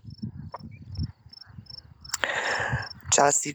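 Crickets chirp beside a fairly large lake in a steady, evenly spaced series of thin, high-pitched pulses in the background while a person talks, with a couple of louder rushing noises near the end.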